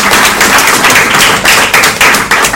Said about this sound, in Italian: No, volevo applaudire. Applaudiamo Daniela.